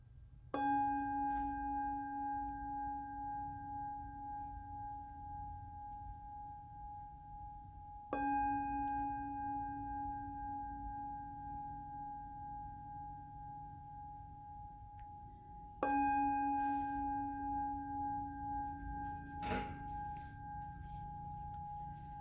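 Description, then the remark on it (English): A meditation bell is struck three times at slow, even intervals, each strike ringing out with a bright, layered tone that hums and fades long before the next. No one speaks. “And gently coming back, and I'm going to invite the bell three times.”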